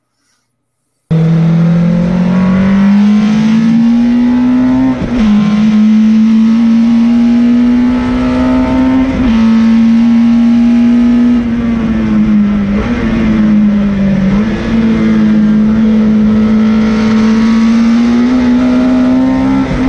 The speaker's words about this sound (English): We have actually got some footage of yourself on board another beautiful racing machine. If we could just play that.